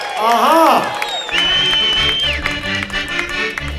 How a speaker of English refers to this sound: How y'all doing? Well, it's a pleasure to be here again this afternoon, and we'd also like to give our weatherman a big round of applause for our beautiful day today.